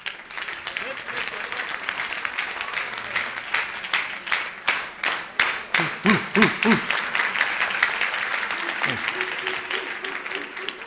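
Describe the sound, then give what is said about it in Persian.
People at a business coaching session applaud steadily for about ten seconds, the dense clapping swelling into a few rhythmic bursts, with faint voices and a brief cheer mixed in. “گوش بدید، خودم و خودتون رو تشویق کنید.”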